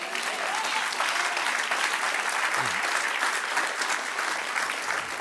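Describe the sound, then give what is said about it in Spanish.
Sustained audience applause fills the space, a dense, steady wash of many hands clapping at once, loud and continuous for several seconds with no talking over it. “A dar un aplauso al que reina.”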